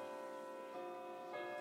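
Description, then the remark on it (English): A grandfather clock chimes slowly, each struck tone ringing out and overlapping the fading resonance of the last, with no voices present. “It chimes! Oh, it chimes! I can't believe it! It's very slow, but”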